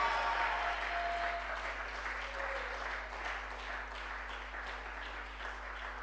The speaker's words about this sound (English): If I have witnesses here, you can shout on that and clap to God's glory.